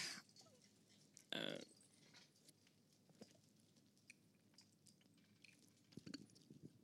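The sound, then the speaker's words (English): Quiet mouth sounds of someone drinking water, with one louder gulping burst early on followed by soft wet swallows and small clicks, and no talking. “Okay, I need to take water.”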